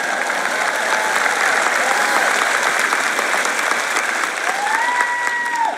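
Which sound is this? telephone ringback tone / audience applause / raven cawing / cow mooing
audience applause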